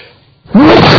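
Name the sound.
sneeze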